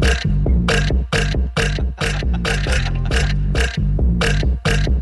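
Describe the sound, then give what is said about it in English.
A long, loud run of deep, rumbling burps from a recording being played, one after another in a steady rhythm with brief gaps between, with no talking over them. “You're going to get the screams and the burps and the laughs.”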